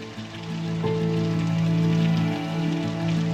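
Torrential rain pours down in a steady, dense hiss, with a low humming drone running underneath throughout. No voices are heard.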